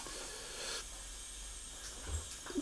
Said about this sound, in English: Oh, coffee machine's on, isn't it? Okay. Oh, yes. What a crema.